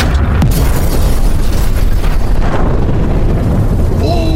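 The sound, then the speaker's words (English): A massive hydrogen bomb (H-bomb) explosion: a loud, deep rumbling roar that stays at full force for several seconds, with crackling noise over the low boom and a few faint whining tones near the end. “Beloved leader Kim Jong-un, if the H letter make a ha sound, then what sound does the H-bomb make? This.”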